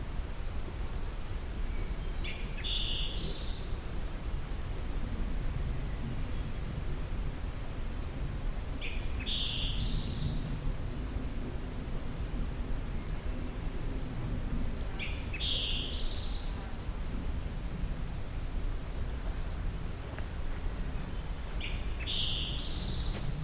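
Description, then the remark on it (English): A summer tanager sings four short, bright phrases, each about a second long and spaced roughly six seconds apart, over a steady low rumble of background noise. No one speaks. “I'm going to look up summer tanager.”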